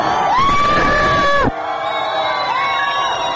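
A large protest crowd in Iran roars and shouts harsh slogans against the regime loudly, with a long, sustained cry rising above the din before the noise drops suddenly, then another drawn-out shout rises over the remaining crowd murmur.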